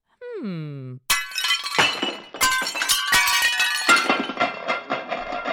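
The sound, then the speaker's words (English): A brief falling vocal cry, then a loud, prolonged cascade of seven dishes smashing, with several crashing impacts and bright ringing clinks of shattering ceramic and glass tumbling over several seconds. “Seven less dishes to clean!”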